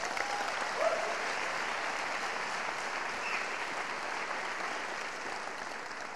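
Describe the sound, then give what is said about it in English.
An audience applauds steadily for mothers on Mother's Day, a dense wash of clapping hands that holds at an even level for several seconds without any talking over it. “Let's give the mothers a huge clap.”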